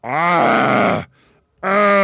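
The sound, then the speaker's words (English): A voice imitates choking and gurgling: a long, loud, strained rattling groan, a brief pause, then a second throaty burst, alone. “He gasped. He gurgled. A few choking sounds came out of his mouth.”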